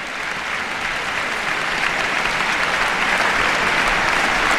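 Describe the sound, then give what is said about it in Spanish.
An audience applauds enthusiastically after a brilliant OBC performance featuring Nikolai Lugansky, a dense, steady roar of many hands clapping at once that stays loud and sustained throughout, with no voices standing out. “Nos gustará mucho ver a menudo a Nikolai Lugansky las temporadas de la OBC, y el público está aquí aplaudiendo a rabiar esta brillante interpretación de una partitura que siempre tiene el éxito asegurado.”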